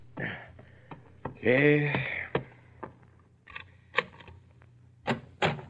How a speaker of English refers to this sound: Late the next morning, a persistent pounding on the bedroom door awakes you.